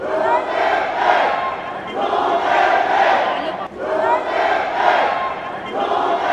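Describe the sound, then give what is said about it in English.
A small crowd of Duterte supporters at the Manila airport shouts and chants together in loud, rising and falling waves of massed voices, swelling twice in a rhythmic pattern with no single speaker standing out, as former Philippine President Rodrigo Duterte is detained by Interpol officers. “A small crowd of Duterte supporters gathered at the Manila airport as the 79-year-old ex-president was detained by officers with the global law enforcement agency Interpol after he returned from a trip to Hong Kong.”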